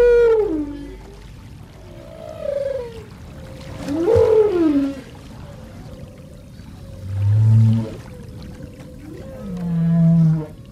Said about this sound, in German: Es gibt einen besonderen Moment, den Sie erlebt haben, den haben wir aus der Doku rausgeholt. Sie erleben einen singenden Buckelwal live unter Wasser.